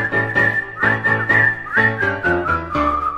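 A bright whistled melody carries a simple tune, its clear high notes sliding slightly between pitches, over a steady, rhythmic instrumental accompaniment with no voices.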